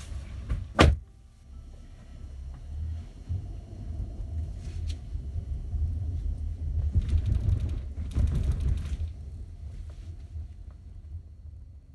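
Inside a car with a low engine rumble, a sharp door click sounds, followed by creaks and shuffling as a student climbs out of the car to head back into school, then more rustling and mechanical handling noises.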